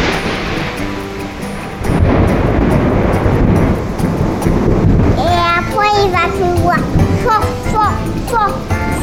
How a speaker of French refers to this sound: Ça se passe un soir au Laos. Mm-hmm. En fin de période de mousson. D'accord. On va écouter ça. Dans les montagnes de Banaïm, il y a quelques semaines. Après, il va faire... Et après, il y a le tonnerre.